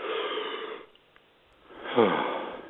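A person gives a long, breathy yawn: a drawn-in airy breath, a brief pause, then a loud exhale that slides down into a low voiced groan before trailing off.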